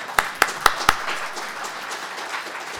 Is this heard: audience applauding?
yes